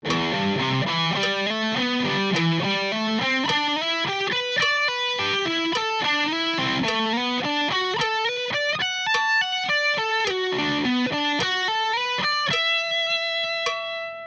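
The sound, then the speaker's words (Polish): A distorted electric guitar plays a fast, unbroken exercise run across the whole neck, rising and falling with smooth legato, sweeps and slides, then settles on a sustained final note. Solo, no voices. “Ćwiczenie 8 z rozdziału łączenie pozycji to płynne przejście po całym gryfie gitary. W ćwiczeniu tym wykorzystane są różne techniki. Legato, w górę, w dół, sweeping i glissando.”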